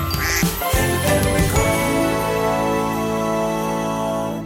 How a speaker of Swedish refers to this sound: Det ringer! Det ringer!